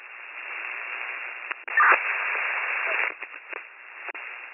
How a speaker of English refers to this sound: That was all static, you're 72. Over.